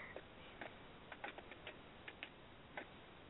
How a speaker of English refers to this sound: You can hear me furiously typing.